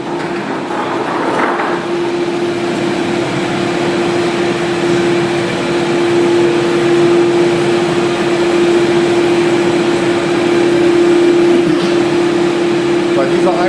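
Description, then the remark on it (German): A cremation furnace roars loudly and steadily in a crematorium's cremation hall during a cremation, a dense whooshing rumble with a constant low droning hum running through it, unchanging from start to finish. “Wir gehen nun weiter quasi in die Einäscherungshalle wieder rein und das wird richtig laut.”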